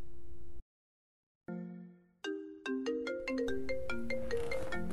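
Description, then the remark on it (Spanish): A mobile phone rings with a bright melodic ringtone for an incoming call, a short tone, then a rising sequence of chiming notes that builds and repeats, clear with no voices. “Una llamada entrante hizo que se despertase. Alargó la mano para coger el móvil y comprobó que en la pantalla aparecía el nombre de su novia.”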